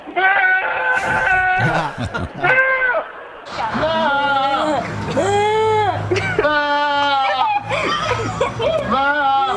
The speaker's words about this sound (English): Here's a new montage of goats screaming like people. People. These are goats.